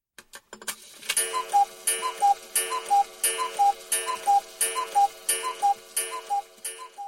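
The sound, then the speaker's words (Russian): A wooden wall clock shaped like a small house with a decorative cuckoo ticks steadily, an alternating tick-tock with a slightly ringing, resonant tone, repeating in an even rhythm with no voices. “Тик-так, тик-так, тик-так. Аноним смотрел на настенные часы в виде скудного деревянного домика с декорированной кукушкой”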